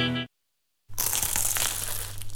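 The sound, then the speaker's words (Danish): After a short pause, a dense crunching and crackling starts as someone bites into a flaky, crisp croissant in Paris, with a steady low hum underneath. “Dette er lyden af dig, der tager en bid af Paris' lækreste croissant.”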